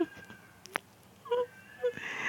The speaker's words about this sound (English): There's a cat outside.